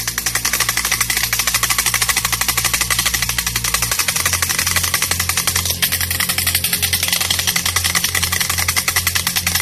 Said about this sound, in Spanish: El primero de ellos, la matraca.